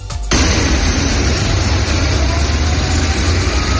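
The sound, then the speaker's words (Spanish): A loud, steady engine rumble with deep low-end throb kicks in after a brief moment and holds constant, like heavy buses idling amid broad background noise; buses arriving early in the morning to evacuate civilians from the besieged city of Mariupol. “A primera hora de la mañana llegaban los primeros autobuses que iban a servir de transporte para sacar de esa ciudad de más de 400.000 habitantes a la población civil.”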